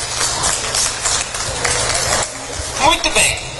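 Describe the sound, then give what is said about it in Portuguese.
A crowd applauds, a dense, steady patter of many hands clapping at moderate volume, with a voice briefly rising over it near the end; audience members clap to show that they speak a little or conversational English. “Cada um de vocês que aplaudiram pode ajudar.”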